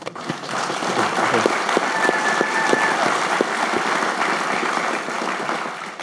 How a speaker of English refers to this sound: Round of applause.